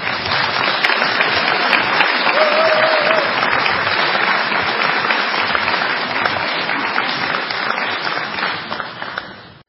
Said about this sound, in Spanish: Recibimos con un fuerte aplauso, ¿a quién?